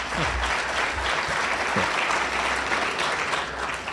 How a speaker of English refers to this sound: I was pretending that I didn't expect applause when I mentioned the five kids.